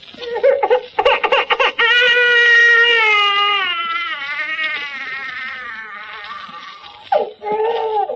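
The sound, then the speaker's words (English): A phonograph record of an infant plays: the infant bawls loudly in one long, wavering wail, bracketed by shorter choppy sobs at the start and a couple of breathy cries at the end, with no one speaking. “Or simply by playing a phonograph record of a bawling infant.”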